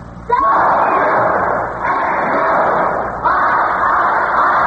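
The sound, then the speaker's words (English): Northwestern students cheer for their team at the College Quiz Bowl, bursting into loud, sustained cheering and shouting, a dense continuous roar that swells again twice before the end, with no single voice standing out. “That's the Northwestern team, Alan, and to cheer them on, they've got a great school. Listen!”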